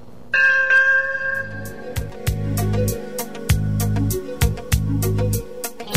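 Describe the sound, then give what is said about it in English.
A bright bell rings once and hangs in the air as it fades, then a punchy rhythmic backing of thumping bass and crisp percussive hits takes over. No one speaks. “Ding dong!”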